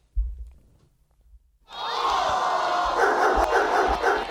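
After a near-silent start with a few low thumps, loud dog barking erupts and continues as a dense, sustained din, with sharper bursts standing out toward the end.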